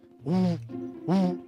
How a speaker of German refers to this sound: Das ist der Gesang der Rohrdommel. Sie ist sehr schwer zu erkennen und zu finden. Die Rohrdommeln sind sehr schwer zu finden.